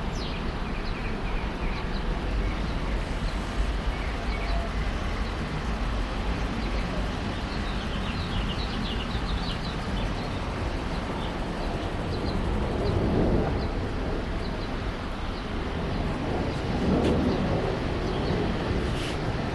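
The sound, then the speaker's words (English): A swimming pool pump drones steadily outdoors, a constant low mechanical hum that never lets up, while faint, scattered bird chirps flicker high above it. “So, yeah, I hear our pool pump, and I also hear some birds.”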